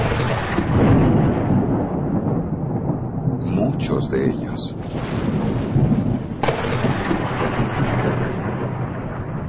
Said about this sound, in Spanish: Las brisas marinas del Caribe y del Atlántico soplan en el llano terreno del sur de Florida. Se combinan con el calor y la humedad para generar poderosas tormentas. Y con esas tormentas llegan los relámpagos.